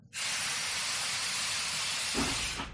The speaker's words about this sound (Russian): В ночи что-то запыхтело, вагон качнулся. Поехал.